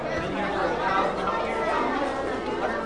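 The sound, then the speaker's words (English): A dense, steady hubbub of many children's voices chattering at once at lunchtime at Keith Kushaheen Elementary School in Sitka, overlapping high-pitched talk with no single voice standing out, continuous and fairly loud throughout. “The sounds of lunchtime at Keith Kushaheen Elementary School.”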